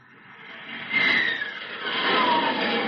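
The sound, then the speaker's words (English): A loud F-89 Scorpion jet engine roars steadily, its whine sweeping in pitch as the aircraft, which travels faster than the speed of sound, passes overhead, broad rushing noise filling the air with no voices. “That's the sound of one of America's newest defenders of the American way, an F-89 Scorpion jet, an airplane that travels faster than the speed of sound.”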